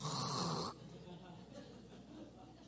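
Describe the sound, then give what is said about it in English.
A voice imitates a husband's single loud, rough snore lasting under a second, then drops away to quiet background noise. “Not only that, he snores.”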